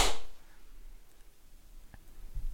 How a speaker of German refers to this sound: Und dann auf drei und dann klatschen. Eins, zwei, drei.